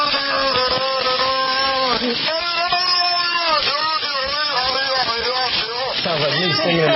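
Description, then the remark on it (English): A continuous stretch of warbling, speech-like vocalizations with wavering harmonic tones and babble-like rhythm from a beluga whale in an enclosed tank in San Diego, mimicking the human conversation of people nearby, recorded in the tank against a steady hissing background. “Well, scientists think the whale's close proximity to people allowed it to listen to and mimic human conversation.”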